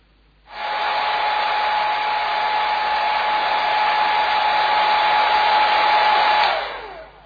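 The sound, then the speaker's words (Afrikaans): A hair dryer switches on at 5 in the morning about a metre from a listener's head, running with a steady, loud whirring roar and a constant whine for about six seconds, then cuts off and winds down. No voices. “Eksperiment B, hier is 'n geluid wat ek gewoonlik mee wakker word, 5 die oggend, so meter van my kop af, en is die bekende ou haardroër.”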